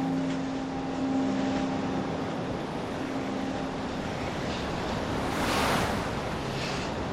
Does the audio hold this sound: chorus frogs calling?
no